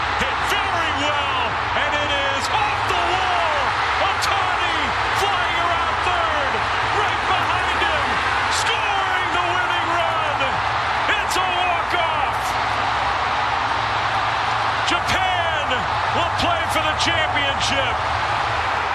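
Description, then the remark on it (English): A huge crowd of Japanese fans in Miami roars and cheers nonstop after a walk-off hit to left center field wins the World Baseball Classic game for Japan over Mexico, a dense wall of overlapping voices with sharp claps and thumps popping out of the steady din. “Listen to that crowd.”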